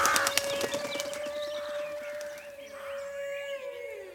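A burst of quick wing flaps from a raven, Tisselijn, flying fast, then a steady humming tone with faint bird calls drifting underneath as the flapping fades away. No one speaks.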